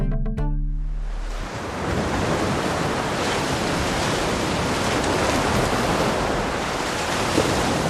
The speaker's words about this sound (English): If you think about the biggest waves on Earth, raw, powerful, scary, what comes to mind?